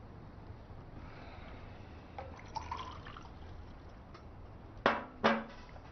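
Drinking water is poured briefly into a vessel for someone to drink, followed by two sharp clinks in quick succession, like a glass or cup being set down.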